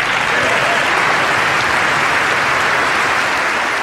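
Loud, sustained applause from a large crowd in the Congress chamber during a speech, honoring military defenders and families, a dense steady wash of clapping with no breaks or voices standing out; the full applause lasts a minute and 40 seconds.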